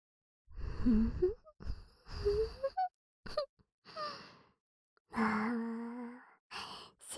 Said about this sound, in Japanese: トロトロになってるところ悪いんですけど、あのさ、息すんなってこの前言ったよね。臭いって本当に、そのはぁはぁってのやめてくれない？